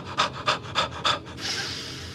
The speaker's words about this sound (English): Instead, she comes to the realization that Bashir has no sense of conversational space and is quite clearly the loud breather in yoga.